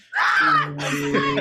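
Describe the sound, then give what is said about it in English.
A loud human scream of frustration bursts out, starting high and strained, then sinks into a rough, drawn-out groaning yell for about a second and a half. “It's just gonna have to be me editing down my own screams.”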